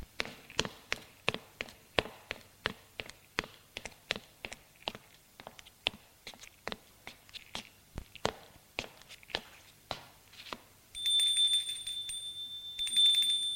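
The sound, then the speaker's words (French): Steady footsteps climb a staircase in an old apartment building on the rue de Sèze, heading to the third floor, about two or three sharp steps per second for roughly ten seconds, followed by a loud, sustained electronic doorbell ringing in two bursts. “Il monte les escaliers pour aller au troisième étage.”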